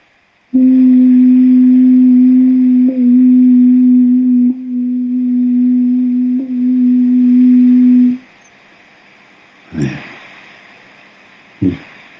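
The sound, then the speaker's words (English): A single steady, low hummed tone, made out loud as a heart chakra exercise, holds loud for about seven and a half seconds with a few slight wavers, then stops, followed by two brief soft bumps. “Get it humming in your heart.”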